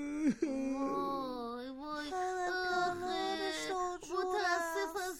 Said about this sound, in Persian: چی شده؟ چرا گریه میکنی؟ گریه نکن. خب بگو چی شده دیگه.